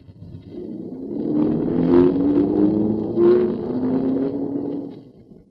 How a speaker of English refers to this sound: Well, shall I run the car into the garage? Yes, if you will, please.